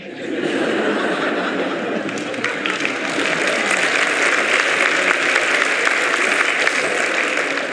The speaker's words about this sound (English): A lot of women were clapping. Less men.